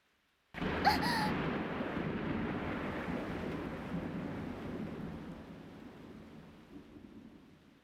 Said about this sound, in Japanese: 驚いて抱きついただけよ。私、子供の頃から雷が嫌いなのよ。